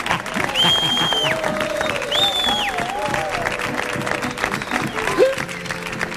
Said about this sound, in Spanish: Fuerte el aplauso